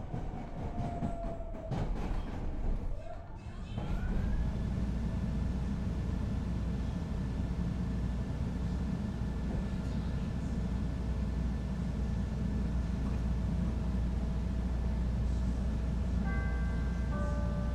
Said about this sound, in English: This is Thorndale. This is a red line train to Howard.